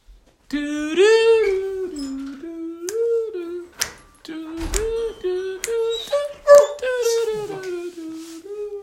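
Dogs howl and whimper in long, wavering, high-pitched cries that rise and fall, nearly continuous with only short breaks, with a few faint clicks and thumps underneath.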